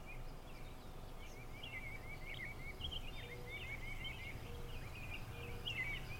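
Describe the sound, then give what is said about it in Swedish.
Soft birdsong chirps and trills repeat steadily throughout, quiet, over a low, constant outdoor rumble. No one speaks. “Du bara sitter här och njuter av lugnet och solen, fåglarnas kvitter.”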